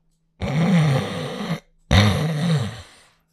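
snoring

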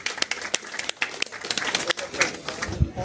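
audience applause

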